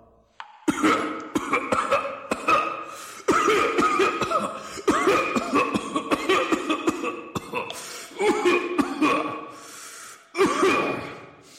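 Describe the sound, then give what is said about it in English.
A long, loud fit of coughing performed by a voice, with harsh repeated bursts, wheezing gasps and strained breaths between them, continuing for several seconds without words. “Nitre, how long have you had the cough?”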